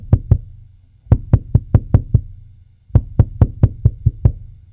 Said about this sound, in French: Une heure plus tard, on frappe à la porte.